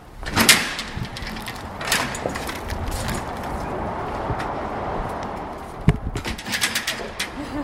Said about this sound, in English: Sometimes they don't close properly behind it. Big heavy doors.